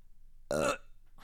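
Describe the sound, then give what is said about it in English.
A single loud, throaty burp erupts, lasting about a quarter second with a buzzing, harmonic rasp, then quiet returns. “Imagine the burp just happened then cut in.”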